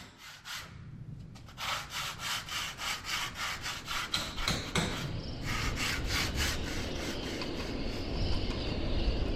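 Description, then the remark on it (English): Old oakum caulking is scraped out of the carvel seams of a wooden boat by Anstruther Fishery Museum's resident boat club, in quick, regular rasping strokes that blur into a steadier, continuous grating scrape partway through, with no talking. “Taking all the stuff out of the seams of this boat.”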